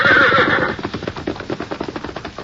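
A loud horse whinny with shrill harmonic peaks, quickly followed by rhythmic hoofbeats that pound steadily as the red horse, freed of its saddle and bridle, gallops off toward the hills, fading slightly.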